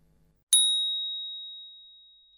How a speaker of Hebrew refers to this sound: לאחר שנשמע את צליל הפעמון, ניגש לרהיט.